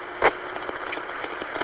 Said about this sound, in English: Cabin noise, you know, I'm driving to work. Not a lot of people know what that's like, so, but they're in a car driving to work. Depending on the vehicle you're in, it can get noisy in the cabin. Perhaps you can even hear it in the background here.